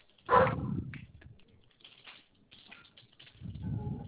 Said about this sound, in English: My son's playing outside. My dog wants to go play.